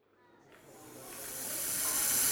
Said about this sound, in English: doesn't like the snakes.